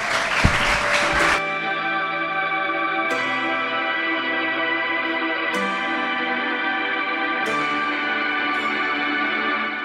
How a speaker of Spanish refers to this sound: Así que despedimos. Un aplauso para Chimo y Pedro. Gracias.